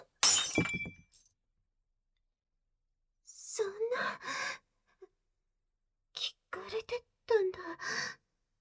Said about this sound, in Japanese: この割れた試験管の中身も全部もうダメ。